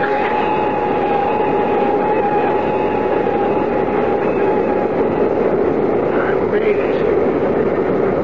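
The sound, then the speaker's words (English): A heavy, continuous roar of an airplane landing and braking hard on the runway, loud, with a steady high whine running through the rumble for the whole stretch. “Signing off now, Doc, and turning you over. The plane is down.”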